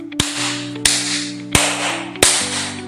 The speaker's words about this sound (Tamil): என்னன்னா முதுகுல வச்சு தட்டுறீங்க? ஆமாமா, இந்த மாதிரி குழந்தைங்க ஏதாச்சும் சாப்பாட்டு பொருளையோ அல்லது தேவையில்லாத பொருளையோ சாப்பிட்டுட்டு அது தொண்டையில போய் சிக்கிக்கிச்சுனா உடனடியாக முதுகு பகுதியில் தான் நீங்கள் தட்டணும்.